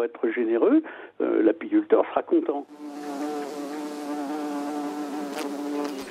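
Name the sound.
honeybees buzzing around beehives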